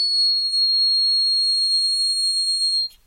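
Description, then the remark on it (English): A grasshopper mouse's prairie howl, slowed down to lower its pitch from almost 14,000 hertz: one long, steady, high whistle-like tone held for nearly three seconds, loud and clear with no talking, then cutting off abruptly. “There you have it, the howling mouse of the prairie.”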